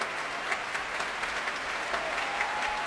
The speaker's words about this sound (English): Susan Graham coming back onto the platform now, pressing her hands together and applauding the young players